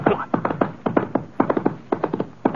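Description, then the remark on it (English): Horse hooves clop in a quick, steady rhythm, landing in repeated clusters of three or four beats like a trot picking up pace, moderately loud, with no voices. A saddled horse sets off with its rider. “Well, I sure didn't feel like sticking around for another one of their arguments, so I sort of sneaked out the front door and climbed into the saddle. Let's go, boy. Come on.”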